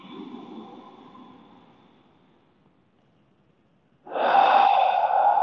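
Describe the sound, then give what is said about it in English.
A slow exhale through the nose fades into near silence, then a strong, deep pranic inhalation rushes in loudly through the nostrils, steady and airy, with no talking. “Start taking this beautiful, deep pranic breathing.”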